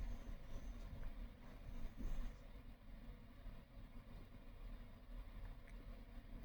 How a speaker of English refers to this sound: You hear a car with a very noisy engine go by. As it passes, a cloud of gray exhaust bellows out.